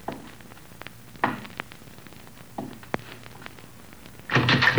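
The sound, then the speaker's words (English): A few dull thuds and knocks, followed by a louder, sustained crashing burst near the end as a door is kicked open. “Wolf, kick open that door. If it ain't open, shoot it open.”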